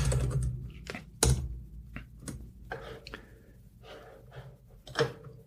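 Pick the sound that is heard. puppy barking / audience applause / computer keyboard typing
computer keyboard typing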